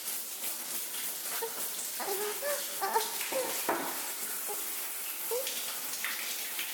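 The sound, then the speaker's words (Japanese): A medium-strength shower runs steadily with a continuous bright hiss of falling water at moderate volume, with a few faint splashes and knocks scattered through it and no voices. “中ぐらいのシャワーだったけど、それでも刺激があってやめることができなかった。”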